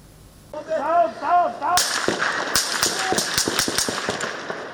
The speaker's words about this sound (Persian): صدای تیراندازی و بعد فریادهای تیم خبری شبکه یل جزیره